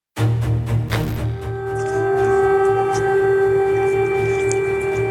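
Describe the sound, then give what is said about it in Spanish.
A loud, sustained air raid siren wails steadily in the centre of Kyiv, the capital, its tones holding and droning without pause after an abrupt start, with faint background noise beneath. “Y voy a dejar que suenen un poco las sirenas que podemos escuchar claramente aquí en el centro de la capital, en Kiev, en donde claramente ahora está entrando la ley marcial.”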